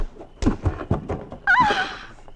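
A quick run of heavy, dull thuds, like bodies hitting the ground in a scuffle, followed by a strained, pained vocal groan close by.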